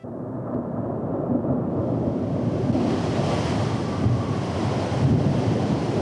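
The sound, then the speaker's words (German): A stormy sea roars steadily, with loud crashing surf and gusting wind buffeting the microphone in a dense, unbroken wash of noise that swells slightly as it goes on. “Und da hat er immer bei Sturm einen Fisch geangelt.”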